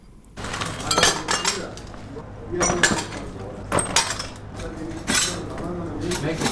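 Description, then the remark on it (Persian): Shards of broken glass clink and scrape together as people gather them up in a house in Khair Khana, Kabul, Afghanistan, damaged by a rocket strike, in several bursts of crunching and tinkling over a low background hum. “پارچه های شیشه را جمع می کنند و می خواهند ویرانه های راکت را که صبح اول قوس به این خانه در حصه دوم خیرخانه به بار آورده ترمیم کنند.”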